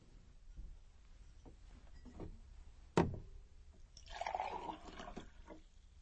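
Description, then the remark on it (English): A sharp clink of glass, then a short burst of water pouring into a glass, moderately loud, with quiet background noise and no talking. “Could I have another glass of water”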